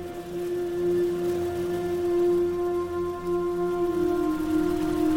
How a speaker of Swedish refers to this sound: Odysseus vet precis vad det är. Sirener. Förföriska varelser som lockar seglare med sin hypnotiska sång. Sången är så förtrollande att ingen som hör den överlever.